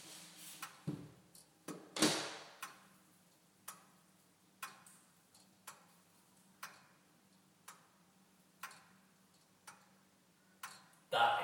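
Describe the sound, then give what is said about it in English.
A clock with its door open ticks at a steady, unhurried pace, each tick a sharp, bright click over a low background hum, with a couple of louder knocks mixed in. “But even with it shut, the heartbeat of any house.”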